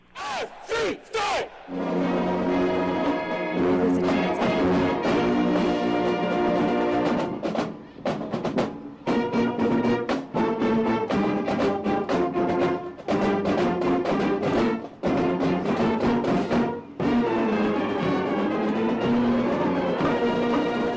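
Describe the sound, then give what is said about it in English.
The South Carolina State Marching Band plays loudly, with a few sharp opening blasts followed by sustained, brassy chords punctuated by rhythmic hits and brief pauses, with crowd noise mixed in. “Let's hear the South Carolina State Marching Band right here.”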